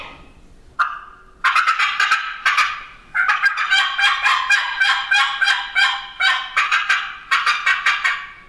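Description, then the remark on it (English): Loud, aggressive imitated turkey calling on a mountain: rapid, sharp cutting notes fired in fast bursts, harsh, running almost continuously for several seconds with no talking. “I've got a lot of turkeys gobbling, middle of the day, doing that.”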